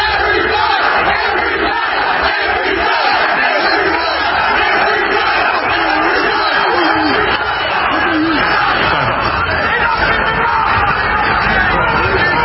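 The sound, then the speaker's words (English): A loud crowd of construction workers in yellow and orange jackets marches through Melbourne, shouting and chanting "F the jab" and "enough is enough", a dense roar of many voices that stays steady and continuous throughout, with bursts of yelling rising over the babble. “A day after attempting to storm the union building itself, construction workers marched through Melbourne wearing yellow and orange jackets while chanting, F the jab and enough is enough.”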